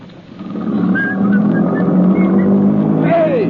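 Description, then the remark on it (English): A car engine turns over and settles into a loud, steady rumble, running for a few seconds with a thin whistling whine drifting above it, as someone drives the car away. “Come back with that car!”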